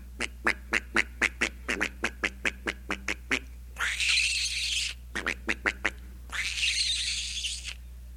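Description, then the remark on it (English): Ducks quack in quick, evenly spaced runs of short nasal calls, broken by two longer, harsh noisy bursts. Clear, with a low steady hum underneath and no talking. “Today's a fine day for ducks.”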